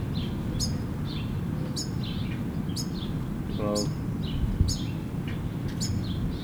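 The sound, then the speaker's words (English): Finches call in the background, a steady series of short, high chirps repeating about once a second over a constant low rumble, with a voice briefly saying a single word. “How far is in the background? I mean, it has finches.”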